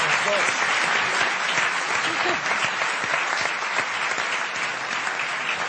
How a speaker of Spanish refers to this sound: Somos los ganadores. Un aplauso para los atacantes.